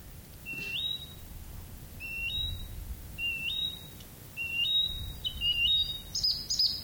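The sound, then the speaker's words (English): Bluethroats, Smith's longspurs, redpolls and sparrows sing outdoors at Sunset Pass in the Arctic Refuge, near the Beaufort Sea, in a steady series of short, bright whistled phrases, rising and repeating about every second, over a low rumble of wind, with no one speaking. “These are blue throats, Smith's longspurs, red poles, sparrows.”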